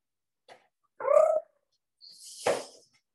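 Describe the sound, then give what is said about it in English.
A male cat meows twice, first a short tonal mew, then a longer, raspier cry that swells in the middle, preceded by a faint brief sound, with no talking. “I don't know if you can hear the cat.”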